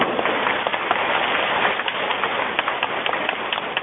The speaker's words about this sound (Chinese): 鼓掌。